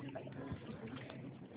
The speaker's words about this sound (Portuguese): Tá tomando água? Dá risada. É que eu tô com mó sede, aí eu escutei o barulho d'água, falei, vixe, tá tomando água.